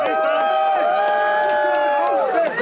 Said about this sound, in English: A group of supporters greeted him. They were cheering.